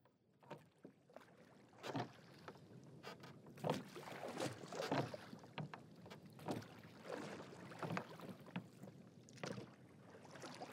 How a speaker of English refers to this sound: The third hour was three parts through when we heard again the sound of oars across the silent ocean.